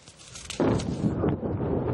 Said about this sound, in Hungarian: Szemtanúk szerint az egész városban lövések és robbanások sorozata hallatszott.